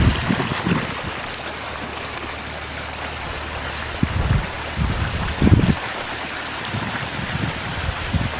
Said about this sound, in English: And this is where one of the roads come down to a camping area right on the creek. This video is the creek.